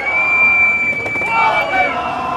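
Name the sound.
crowd booing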